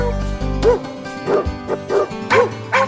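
A dog barks in a quick series of about six sharp, close-up barks with short gaps between them, starting over a brief low rumble that quickly fades.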